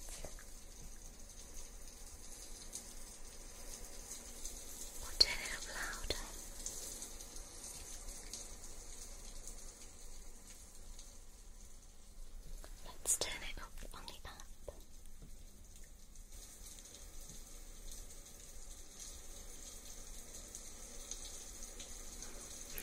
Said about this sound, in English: So you can create your own custom ambient sound. And this ambient sound can play up to 3 hours to help you to sleep, but it's also customizable. Say we wanted some rain sound.